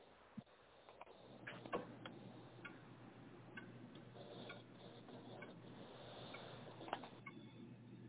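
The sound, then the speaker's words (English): An old clock ticks steadily, each tick a sharp, faint click set against a low, constant hum with no one speaking. “A dreaded sound of tick-tock from the last vintage clock ticks behind the hollow walls beneath the midnight moon.”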